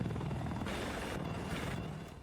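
A video game helicopter's rotor thumps steadily and loudly with a dense, rushing engine roar, holding constant before easing off slightly at the end. No one speaks.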